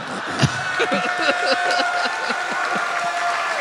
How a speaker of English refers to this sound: You guys, don't applaud like he came up with that originally.